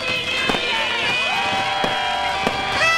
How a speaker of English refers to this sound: As we ring in the new year in the Central Time Zone, fireworks fly over the Mississippi River and at homes across the region as people set off their own displays.